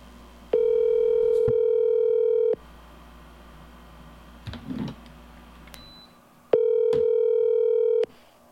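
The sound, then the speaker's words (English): A phone call rings out over a speakerphone: two long, steady electronic ring tones a few seconds apart, loud and slightly tinny, with a brief faint rustle in the pause between. “He usually picks up the phone and goes, what?”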